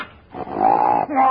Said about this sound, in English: Just as I thought, you do have a dog in here. He's in that closet.